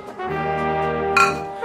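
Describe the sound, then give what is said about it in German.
Glasses clink together in a toast, a single bright clink near the end that follows a steady, sustained ringing tone. “Prost.”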